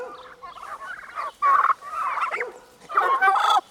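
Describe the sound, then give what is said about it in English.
Turkeys gobbling on a farm in loud, rapid warbling bursts, several overlapping calls with short pauses between them and no voices. “And they make the funniest sounds.”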